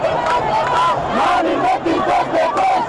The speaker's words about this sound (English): Today, when news of Bashir's arrest spread, celebrations roared across the capital, Khartoum.